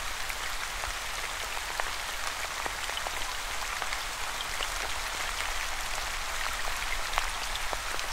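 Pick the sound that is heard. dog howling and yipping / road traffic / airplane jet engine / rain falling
rain falling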